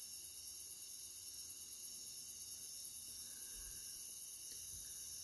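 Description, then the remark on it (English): A steady, continuous chorus of crickets chirping, high-pitched and unbroken, with faint low rustling underneath and no voices. “Listen to the constant sound of the crickets, but expand your awareness into the sound of the undertones.”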